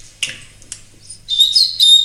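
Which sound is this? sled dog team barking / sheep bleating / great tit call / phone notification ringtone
great tit call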